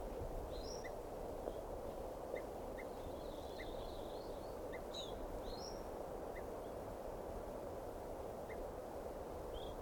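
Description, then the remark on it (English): Several birds calling over steady background noise: scattered short chirps and a few rising whistles come from different directions, faint, spread throughout with no talking. “There's a whole bunch of birds here.”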